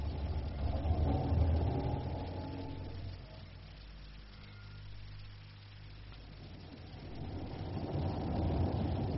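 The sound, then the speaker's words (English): A car engine rumbles and revs as the vehicle pulls away from outside a club after people get in, its low drone easing off midway and then building again toward the end. No one speaks. “They're getting in the car, sir.”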